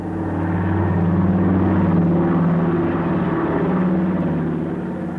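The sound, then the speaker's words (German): A steady, loud drone of the piston engines of hundreds of aircraft supplying Berlin from the air in 1948–49, with a low throbbing hum and strong harmonic tones holding constant, swelling slightly in the middle. No voices are heard. “525.600 Minuten hämmern ununterbrochen die Kolben, fressen hunderte von Motoren Millionen Liter Treibstoff.”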